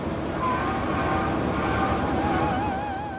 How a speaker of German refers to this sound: Vierte Aufnahme, wieder 25 Meter näher. Abstand vom Bohrturm jetzt ca. 100 Meter, nur noch 50 Meter Abstand. Unmittelbar vor dem unteren offenen Ende des Bohrturms.